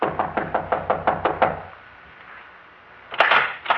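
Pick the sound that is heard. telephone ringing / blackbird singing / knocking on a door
knocking on a door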